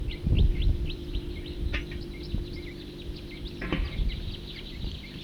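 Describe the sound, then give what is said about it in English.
A larger flock of birds passing overhead, many short high chirping calls repeating in quick succession over a steady low rumble, with a couple of sharper clicks partway through. “Larger flock flying over.”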